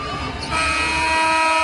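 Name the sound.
basketball arena buzzer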